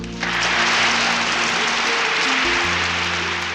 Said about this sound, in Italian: Vi ringrazio per gli applausi, vi ringrazio per l'accoglienza e per l'attenzione dimostrataci.